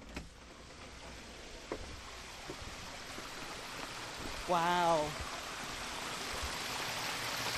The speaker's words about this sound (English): There are three waterfalls that come down towards the house.